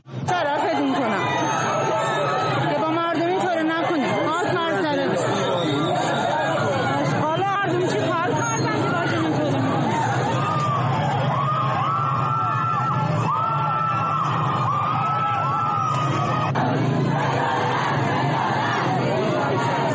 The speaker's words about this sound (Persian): صدای اعتراضات مردمی در اصفهان و مشهد را می شنیدید.